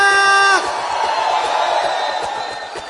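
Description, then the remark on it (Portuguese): A group of young men whoop and shout together, starting with a sustained high-pitched yell that breaks into a loud, overlapping crowd roar, energetic throughout. “Cadê o grito da rapaziada?”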